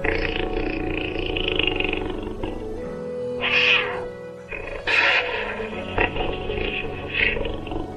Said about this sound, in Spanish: Un día, la raposa, que se encontraba de paseo por el bosque, oyó un extraño ronquido.